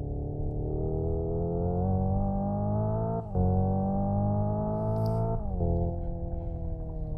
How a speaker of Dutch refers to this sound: Luister maar even mee. Ignition simuleert de 2 liter turbomotor van N-modellen met een verbrandingsmotor, compleet met pop- en knalgeluidseffecten.